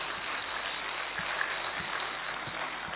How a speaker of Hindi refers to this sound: मातृशक्ति, आज mother's day है, आप चाहें तो सभी मदर्स के लिए बहुत जोरदार तालियां बजा सकते हैं। आज मातृशक्ति दिवस है, तालियां थोड़ी हल्की बजी हैं, हाँ दोबारा से तालियां बजा दीजिए।